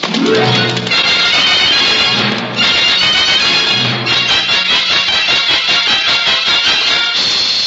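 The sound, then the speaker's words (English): A horse whinnies loudly near the start, followed by a steady, rapid pounding of hooves galloping, dense and continuous with no one speaking. “Well, it just so happens I'm not a ghost man, and I do need a horse. Make him go fast”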